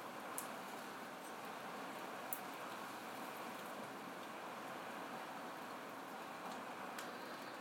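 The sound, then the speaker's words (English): A dense, steady roar of hail pelting down in Israel in winter, countless ice pellets hissing and pattering on a surface, with a few sharper impacts standing out. No voices. “Hailstorm full of grace. Full of ice. Full of ice.”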